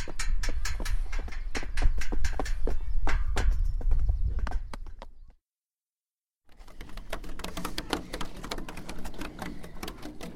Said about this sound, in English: We're stamping the floor.